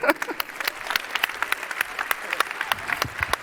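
An audience applauds steadily, many hands clapping in a dense, crackling wash with sharp individual claps poking through at a fairly even loudness throughout.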